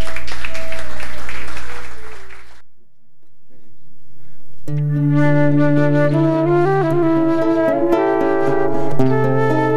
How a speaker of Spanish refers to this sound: Así que, por favor, en unos momentos ya vamos a estar listos y les pido un aplauso